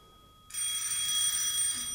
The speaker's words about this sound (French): C'est encore cette vacherie de téléphone qui me réveille le lendemain matin.